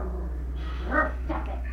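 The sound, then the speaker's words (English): A dog barks twice in quick succession, short and moderately loud, over a steady low electrical hum with no one speaking. “Dog barked.”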